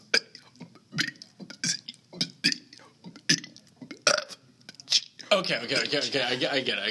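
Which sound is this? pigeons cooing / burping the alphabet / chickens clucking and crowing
burping the alphabet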